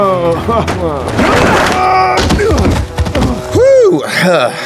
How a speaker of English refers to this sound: Murtaugh bent over to hold his stomach, and Jim took the opportunity to grab the man by his hair. He slammed Murtaugh's head down onto the table.